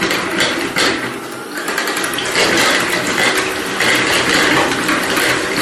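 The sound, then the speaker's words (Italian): An electric hand mixer whirs steadily, its beaters churning loudly with a continuous buzzing, slightly fluctuating drone as it whips cream with 100 grams of sugar in a bowl. “Abbiamo gli ultimi 100 grammi di zucchero, incominciamo a montare.”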